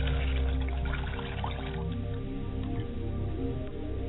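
Water pours steadily into a glass set out for ancestral spirits during a ritual, a continuous liquid trickle with faint splashing and no one speaking.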